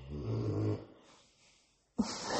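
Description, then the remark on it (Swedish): A dog snores, a low rumbling rasp that fades into a quiet breath before the next loud, breathy snore starts abruptly. No one talks. “tänk att mina hundar alltid ska snarka när jag ska prata.”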